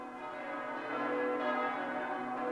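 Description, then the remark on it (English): Church bells ring in a dense, sustained wash of overlapping tones, holding a steady moderate loudness throughout with no voices present. “Let night come on, bells end the day.”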